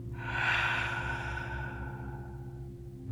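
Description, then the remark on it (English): A long, slow exhale released after a deep breath in and a hold, airy and gradually fading over about three seconds, with a low steady hum underneath and no talking. “Let's take a deep breath in. Hold and slowly release.”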